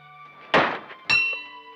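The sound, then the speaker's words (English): Two heavy hammer whacks land about half a second apart, and the second sets a bell ringing with a bright, sustained metallic tone that slowly fades. No one speaks. “Golly, what a wallop! He rang the bell again.”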